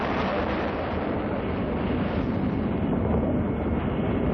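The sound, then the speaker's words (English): A massive rocket engine roar from the Apollo 11 launch at liftoff, all engines running, rumbles without letup, a dense, heavy wall of low, rushing noise that stays loud and steady throughout, with no voices. “Ignition sequence starts. 6, 5, 4, 3, 2, 1, 0. All engine running.”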